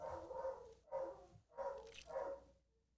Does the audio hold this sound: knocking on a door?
no